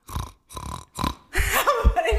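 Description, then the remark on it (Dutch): A person imitates the grunting a sow with piglets makes while nursing, the grunt that shows she is giving milk: three short, evenly spaced, low guttural grunts, then a longer, rougher run of throaty grunting that wavers in pitch. “Dan zijn ze blij bij deze knor?”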